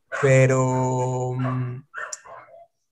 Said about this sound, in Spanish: Pero qué pena que es que los perros me distraen